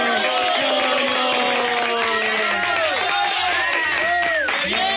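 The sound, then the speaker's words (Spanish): A lively crowd cheers and applauds at a kindergarten's end-of-year closing ceremony, with many high, excited voices whooping and calling over a steady wash of clapping. The noise stays loud and dense throughout. “¡Aplausos!”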